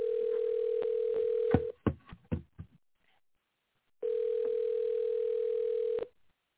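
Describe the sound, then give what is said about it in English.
An outgoing phone call to Carlos rings out unanswered: a steady, low electronic tone sounds for about two seconds, a few clicks and a pause follow, then the same tone repeats. No one speaks. “I need for Carlos to answer his phone.”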